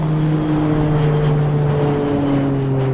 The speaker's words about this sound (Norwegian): Klokka 20.07 tar Widerøes rute 7.10 omsider av fra Namsos lufthavn og set kursen nordover.